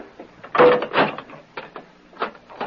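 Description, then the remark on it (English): A heavy cell door swings shut with a brief squeal and a loud clang, followed by a few sharper metallic clicks and clunks as it is locked. No voices are heard. “Now close and lock the door.”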